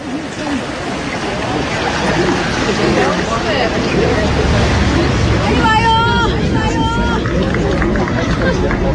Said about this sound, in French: Alors, là, c'est le Jourdain, cette rivière, là, il y a un pont, les voitures qui passent là-bas,